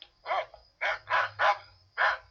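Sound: small dog yapping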